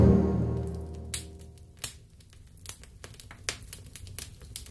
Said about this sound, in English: Ah, you just can't beat the sound of a crackling log fire.